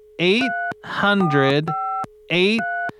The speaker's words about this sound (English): All right, just gonna dial that number.